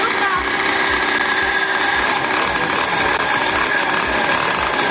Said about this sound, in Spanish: Así es. Como acelera Luca, ¿eh? Así es como Luca Terremoto hace rugir su moto.